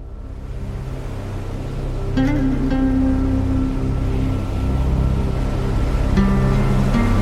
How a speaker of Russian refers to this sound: Я сижу на огромном холодном камне, со всех сторон обдуваемым неприветливым океаническим ветром